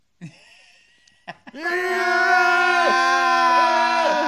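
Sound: person screaming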